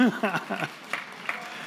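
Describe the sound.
A voice speaks briefly, then a few scattered, sharp claps from the audience follow at an uneven pace, fairly soft rather than a full round of applause, clapping for the man who led worship that day.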